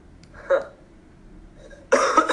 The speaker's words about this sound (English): What are you laughing at? I wasn't laughing. I was coughing.